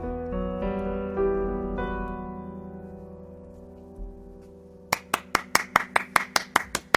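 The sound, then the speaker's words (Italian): At a live performance on the radio, a sustained musical chord rings out and fades, then steady, evenly spaced hand claps begin, about nine sharp claps in a regular rhythm, loud and without any talking. “Mi capita poi sempre di fare quello che deve fare, gli applausi per tutti, ma insomma è bello, bellissima emozione, grazie.”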